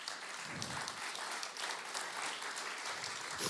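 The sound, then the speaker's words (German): Steady applause from an audience welcoming a speaker onto the stage, a dense wash of many hands clapping at once with no gaps, holding an even level throughout with no voices over it. “Gebt ihm doch mal einen Applaus.”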